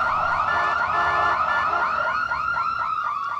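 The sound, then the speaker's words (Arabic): An ambulance siren wails on its own, its high tone sweeping up and down in quick, repeating cycles, loud and steady throughout with no voices. “لأنتظر وأرى بنفسي من ستكون الطالبة المسكينة التي ستركب في سيارة الأسعاف.”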